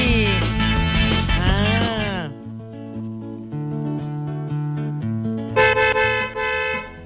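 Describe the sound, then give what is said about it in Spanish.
Loud, brassy car horn blasts: a long wavering honk that bends in pitch, then steadier sustained toots, and a bright final blare near the end, with no talking. “Toque la bocina tan fuerte.”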